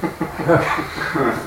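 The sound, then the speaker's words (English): A voice mimics a chugging train with quick, rhythmic puffs of breath, imitating a person breathing very hard through pain, steady pulses repeating for a moment with no words. “But the choo-choo train approach is not going to work”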